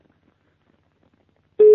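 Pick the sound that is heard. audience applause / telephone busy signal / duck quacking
telephone busy signal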